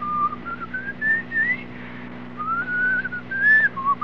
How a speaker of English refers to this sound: So, stand by. I will whistle another few bars for you in the darkness here.